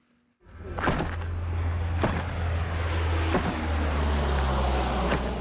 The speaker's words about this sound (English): A cargo plane flies over a dank warehouse while a worker unpacks boxes at O.R. Tambo Airport near Johannesburg.